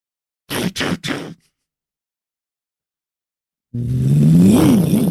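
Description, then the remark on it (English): Three quick clunking bursts, a pause, then the motor of a slightly rusted Bunk Tech Bunker Alarm 3000 alarm device, being switched on, spins up loudly with a rising and falling whine that keeps going to the end, unaccompanied by talk. “Now it's all revved up. Ooh, listen to that whine.”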